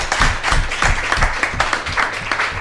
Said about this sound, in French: Merci beaucoup. Et puis on peut applaudir pour ce témoignage.